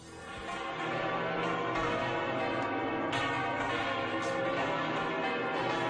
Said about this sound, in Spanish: Así es como suenan las campanas de la Catedral de la Almudena.